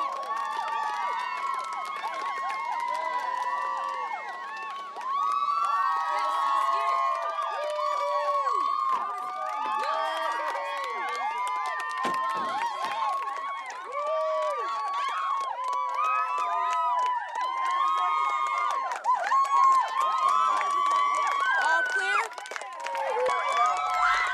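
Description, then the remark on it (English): A large crowd gathered at the NWO subdivision cheers and shouts excitedly as the Supreme Chancellor arrives and steps out of a car, a dense, loud wall of overlapping voices with rising yells and whoops that never lets up. “crowd is going nuts.”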